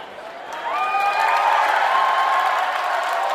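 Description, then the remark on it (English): A concert crowd at an NPR Music All Songs Considered show roars and cheers as the house lights go off and the band takes the stage, the broad wash of noise swelling after a moment and holding steady, with a few high whistles and whoops rising above it. “And as always, when those house lights go off, you'll hear a roar from the crowd”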